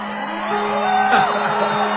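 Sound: audience yelling and whooping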